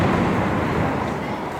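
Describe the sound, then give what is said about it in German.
A loud, deep roll of thunder from a thunderstorm, while it is raining, rumbles steadily through the whole moment, broad and heavy in the low end, fading only slightly toward the end. “Das ist dieses Gewitter”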